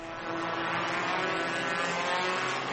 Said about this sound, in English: It's incredibly boring just watching the cars go around and around the track, and I can hardly breathe because of all the smoke and fumes.